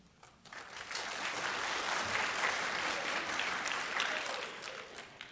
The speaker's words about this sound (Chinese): 谢谢大家鼓掌。